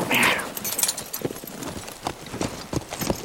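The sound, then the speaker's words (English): Horse hooves clip-clop in a steady rhythm as the rider Cord rides off, the hoofbeats clear, with a brief higher sound at the very start. “As Cord rode off, Faye came to Smoke's side.”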